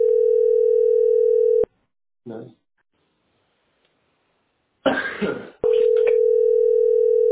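A steady, buzzing telephone ringback tone plays through a handset as someone phones their mother, breaks off for a few seconds of quiet with a brief clatter and loud handling noise, then resumes without pause.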